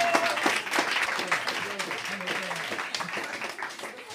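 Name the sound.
audience cheering and applauding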